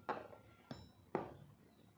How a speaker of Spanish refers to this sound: Y vuelves a esta habitación y te centras solamente en el sonido, en la voz, hasta que termines de oír la campanilla.